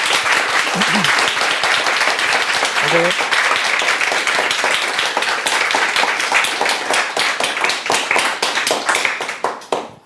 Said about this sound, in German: Und so, ich würde sagen, es gibt nochmal einen dicken Applaus als Dankeschön